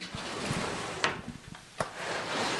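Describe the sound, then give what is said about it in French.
A decorated wooden drawer, its decoration depicting the 1767 celebrations of a saint's canonisation, slides open with a steady rasping scrape, broken by a couple of sharp knocks partway through, with no one speaking. “Alors, je tiens beaucoup à ce tiroir parce qu'il représente, à travers cette partie de décor, les fêtes de la canonisation”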